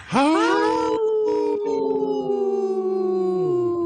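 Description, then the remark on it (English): Three people on the Native Roots Radio show howl together in imitation of a wolf pack. Their voices swoop upward, then hold long, overlapping tones that slowly sink in pitch over about four loud seconds, with no talking. “Wow, that's a good, healthy howl by us three.”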